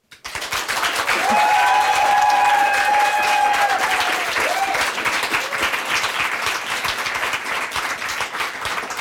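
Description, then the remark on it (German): Loud, dense applause from a large live crowd in a very full venue, sustained throughout with countless overlapping claps, plus a brief cheering whistle or voice rising above it early on. “Man hört's schon, es ist hier heute sehr voll.”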